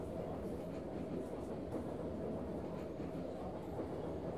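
A steady, low rumble of a moving train heard from inside a carriage, constant and fairly loud, with a faint rhythmic rattle of the cars running underneath.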